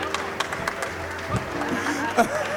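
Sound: audience applauding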